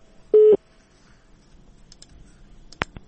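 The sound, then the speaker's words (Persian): A single short, loud electronic telephone tone, a busy signal after a caller's call dropped during a Radio Azadi phone-in, then faint line hiss and a couple of sharp clicks near the end, with no one talking. “بله تماسشان قطع شد.”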